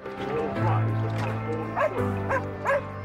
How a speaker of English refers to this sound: Arthur watches him and barks.